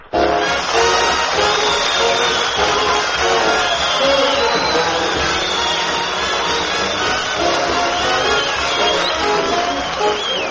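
audience clapping and cheering

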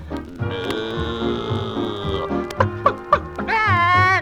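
chicken clucking

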